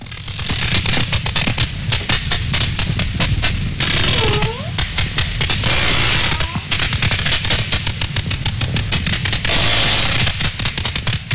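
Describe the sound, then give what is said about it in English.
Dense trains of sharp sperm whale clicks rattle on steadily, overlapping in rapid bursts like gunfire, with a few faint whistle-like tones sliding beneath them around the middle. “Listen to sperm whales.”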